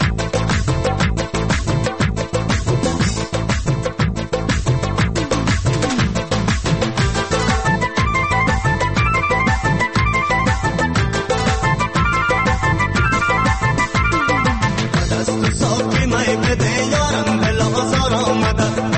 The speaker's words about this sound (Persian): یه آهنگ به مفرمایش خودت یک آهنگش پخش میکنیم.